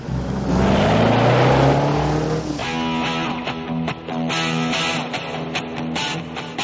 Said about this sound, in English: Daytime. Ray's VW rolls along a sun-soaked, tree-lined highway.